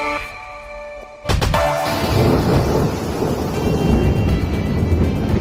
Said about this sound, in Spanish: Bueno, así lleva sonando España desde anoche, con lluvias, tormentas muy, muy fuertes y miles de rayos.